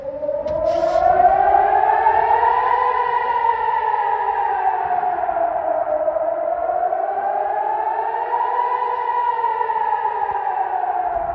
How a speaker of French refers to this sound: En plein milieu de la nuit, plusieurs alertes et sirènes ont retenti, laissant une nouvelle fois planer la peur en ces temps de conflit avec la Palestine.